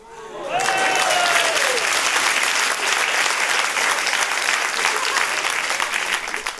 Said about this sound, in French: Tu vois, Sacha, un jour, ces applaudissements seront pour toi.